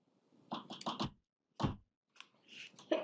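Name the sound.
sneeze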